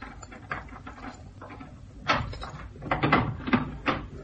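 Clattering handling noises: a series of clicks and rattles as skeleton keys work the lock of a locked door, followed by the door creaking open with knocking and shuffling, no voices.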